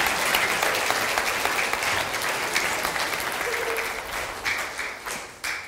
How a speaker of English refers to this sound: Right, give this team Awesome a huge round of applause.